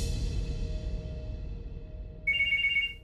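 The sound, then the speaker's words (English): A telephone rings once near the end, a bright warbling electronic trill bursting in clearly over a low, steady background rumble. “Then, a phone call Noel and Kevin didn't expect.”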